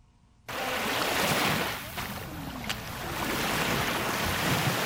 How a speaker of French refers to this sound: Des vagues matinales embrassent la plage du lac Tanganyika à Kajaga, dans la commune de Mutimbuzi, en province de Bujumbura rurale.